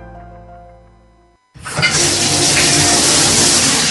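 After a soft tonal hum cuts off, a tap suddenly opens and water gushes out in a steady, loud rush that continues without letting up. No one speaks.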